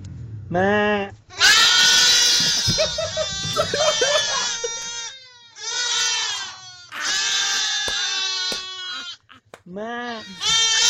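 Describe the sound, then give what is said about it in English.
In a barn full of goats, a man gives a short imitation bleat, and the goats answer with loud, overlapping, wavering bleats in several long bursts; his bleat returns at the end. “there's a guy that walks into a barn full of goats, and when he says bah, they talk back to him.”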